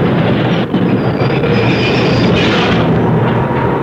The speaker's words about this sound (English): It's our stop. We've got to get off the subway.